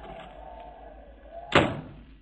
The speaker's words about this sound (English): As our next scene opens, we find Captain Richard Willing, the blind captain of a blind ship, sitting hopelessly in his cabin when a knock comes at his door.